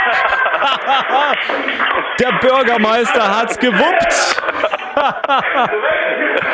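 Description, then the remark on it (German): A crowd of youth fire brigade (Jugendfeuerwehr) members cheers a Mexican wave, many voices whooping in rising and falling swells that stay loud the whole time, while a man speaks over the commotion. “Das ist die Laola-Welle und sozusagen die Freude der Mitglieder aus unserer Jugendfeuerwehr.”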